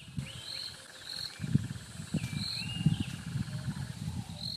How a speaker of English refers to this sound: Those are sounds from one of the few remaining wetlands near Harare. Unlike other parts of the city, the area is covered with green grass and a few trees. Officials say more than 250 bird species live in the wetlands.